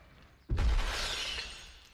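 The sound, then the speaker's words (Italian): A potted plant crashes down with a heavy thud and shatters, shards of pottery scattering and rattling for about a second before settling. Loud, with no voices. “Oh, te sei rotta una pianta.”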